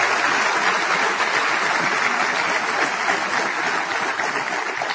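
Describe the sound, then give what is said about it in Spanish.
Sustained audience applause fills the whole stretch, a dense, steady wash of many hands clapping at an even, loud level with no voices standing out. “Un aplauso, por favor, para la corporación, por supuesto.”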